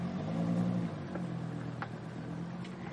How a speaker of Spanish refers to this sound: El coche entra por un camino.